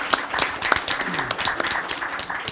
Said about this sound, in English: Well, first round of applause.